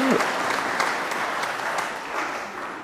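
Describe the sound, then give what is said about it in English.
An audience breaks into steady applause, many hands clapping at once in a dense, even patter that holds at a fairly loud level for a few seconds before easing slightly. “We'll give you a clap.”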